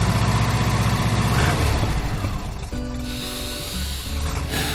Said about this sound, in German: setzen sich Claudia den Boer und Dennis Lotte ins Auto und düsten zu uns an den Diemelsee